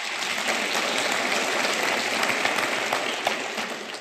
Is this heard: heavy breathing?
no